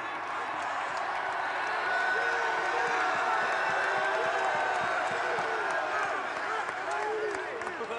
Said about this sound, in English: You have your entire team and your fan base cheering for you, and this is your final game as a Longhorn.